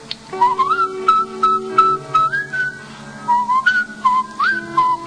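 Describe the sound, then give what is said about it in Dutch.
A person whistles a bright, repetitive melody from an organ concerto, clear pitched notes rising and stepping in short phrases with little pauses, no talking over it. “Deze orgelconcerten zijn heerlijk om te fluiten, want het is één en al herhalen.”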